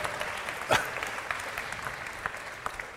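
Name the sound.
audience applause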